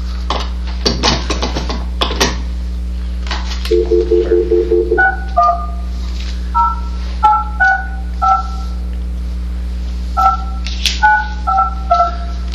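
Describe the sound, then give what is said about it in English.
A rapid series of electronic telephone keypad dialing tones, short dual-pitched beeps in an irregular rhythm, preceded by a few clicks and clatter, over a steady low hum with no talking, as Bethlehem City Council dials a resident. “so I'm going to give him a call here.”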